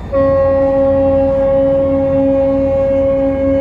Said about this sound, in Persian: در دریا بوغا علامته، بوغ کوتاه، بوغ بلند، یه بوغ، دو بوغ، بوغا همه علامته. یکی میگه دارم میرم جلو، یکی میگه دارم میرم به راست، یکی میگه میرم به چپ. این بوغ تقریبا شبیه بوغ سلام بود.